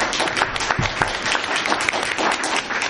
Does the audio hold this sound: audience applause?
yes